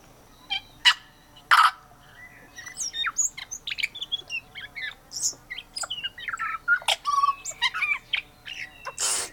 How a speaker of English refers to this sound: We're listening to the tui bird from New Zealand, an indigenous bird, also known as a parson bird because of its black plumage and a little white tuft under its chin. These birds are infinitely curious and have a lot to say for themselves.